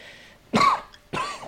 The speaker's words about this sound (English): Hey, don't cough on you.